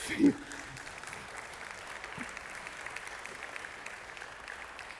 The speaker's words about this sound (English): And people just clapped